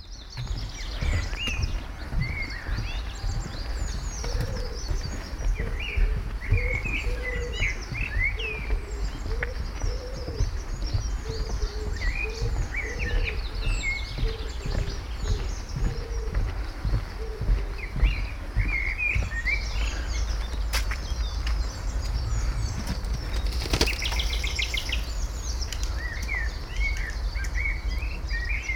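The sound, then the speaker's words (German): Outdoor ambience from the middle of the Leine river bridge: a steady low rumble of water or traffic beneath repeated bird calls and chirps, with pigeon-like cooing in the background. No one speaks. “Wir gehen auf die Leinebrücke zu. Auf der Mitte der Brücke bleiben wir einen Moment stehen.”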